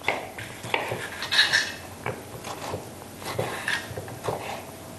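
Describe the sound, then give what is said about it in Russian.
A knife taps and slices tomatoes against a cutting board in a quick, uneven series of fairly quiet chops, with faint kitchen clatter and no talking. “Так. Нарезаем помидорки.”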